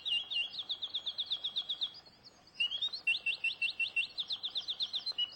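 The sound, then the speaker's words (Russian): A mechanical nightingale in a singing snuffbox trills in fast, bright, evenly repeated chirps, pausing briefly before resuming the same rapid warble, clear with no voices. “И там, в пекинском дворце императорском, есть комната, где полно вот таких вот соловьев.”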